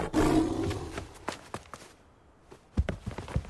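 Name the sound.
lion roaring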